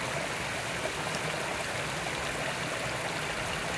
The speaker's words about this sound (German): Es plätschert.